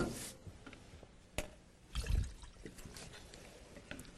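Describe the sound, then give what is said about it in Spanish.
A small amount of water is poured into a thick powder mixture being made into a poultice, with soft trickling and wet mixing sounds, a brief splash and quiet handling noises, no one speaking. “Ok, vamos a necesitar un poquito más de agua.”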